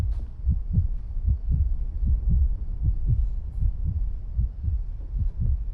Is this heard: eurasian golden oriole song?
no